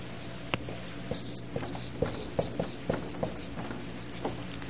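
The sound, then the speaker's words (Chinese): A pen that is not writing clearly writes on a board during a Bible teaching, making a string of short, irregular taps and scratchy strokes, fairly quiet, with no one speaking. “这个笔都不清楚啊。”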